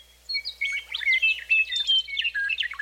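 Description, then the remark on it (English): A meadowlark sings a bright, melodic phrase of rapid whistled notes and trills, clear and continuous for a few seconds with no other sounds. “got together to design a bird song, that's what they would write”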